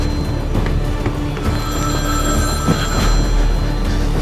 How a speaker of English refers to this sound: So I'm looking for the red duffel bag, but I hear a phone ringing in the room. I have to answer it